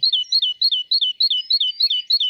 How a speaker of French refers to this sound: Oh, j'adore entendre ce chant. Quand j'entends ça, je me dis, ça y est, le printemps arrive. On n'y est pas encore, hein, c'est dans un mois et demi. En tout cas, cette jolie mésange pour Parlons d'oiseaux